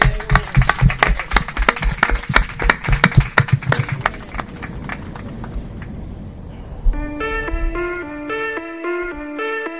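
Applause during a COPE radio broadcast. A burst of loud applause, with many hands clapping in a busy crackle that thins out and fades after about five seconds. It is followed by a bright electronic melody of high tones.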